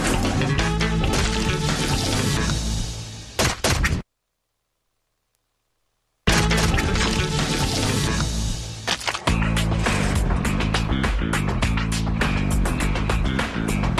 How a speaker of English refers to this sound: This airboat is powered by an engine and propeller originally designed for aircraft. Unlike on a plane, the propeller pushes the vessel forward rather than pulling. The bottom is flat, which makes it ideal for skimming over the surface of the swamp.